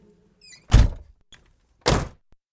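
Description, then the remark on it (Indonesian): Two heavy car door slams about a second apart as people get out of a car on arriving at a livestock farm, each a loud, deep thunk with a brief rattle, after a faint high squeak. No one speaks. “Ayo kita turun dari mobil.”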